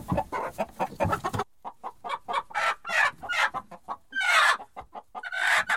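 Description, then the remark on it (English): A chicken clucks in a busy, steady stream of short, throaty calls, pausing briefly before carrying on with louder, squawkier clucks. “Or there was a case of a macaque monkey who made friends with a chicken.”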